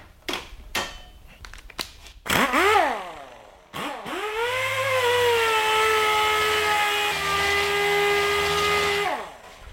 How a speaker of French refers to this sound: Alors, soyez pas effrayés si le compresseur se met en route, parce que c'est une ponceuse qui marche sur l'air.